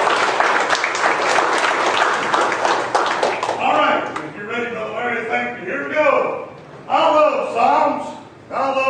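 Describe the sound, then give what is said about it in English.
A church audience bursts into loud, dense applause for about four seconds, then the clapping fades out as a single voice begins speaking. “Give them all a hand of applause.”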